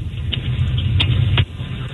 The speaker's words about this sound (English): We can barely hear you. Yeah, we can hear your engine really well.